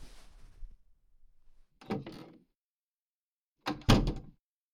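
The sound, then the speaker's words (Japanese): A door comes open as someone enters: a soft rattling shuffle, then a solid thunk around two seconds in, followed by a louder latch clack and bump near the end, with quiet between. “離れてると、ドアの方に体重かかって勝手に開いちゃうじゃない。”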